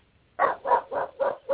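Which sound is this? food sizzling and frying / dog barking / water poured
dog barking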